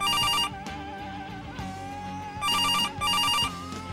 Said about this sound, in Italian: Il telefono non la pianta. Mi alzo, deciso a rispondere o a spaccarlo.